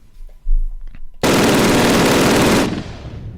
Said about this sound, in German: Das sind ein paar mehr Schüsse gewesen. Ja. Und das war das MG42 aus dem Spiel Call of Duty 1. Kein Kack 2, 3, 4, 5, 6, 1000 oder 12, sondern das richtige klassische Call of Duty. MG42.